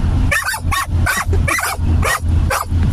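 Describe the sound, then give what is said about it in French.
Dogs bark repeatedly and excitedly, demanding that the radio be switched on, about seven sharp barks in a quick, steady rhythm with a low hum underneath and no talking. “Alors, j'ai mes chiens qui réclament que j'allume la radio.”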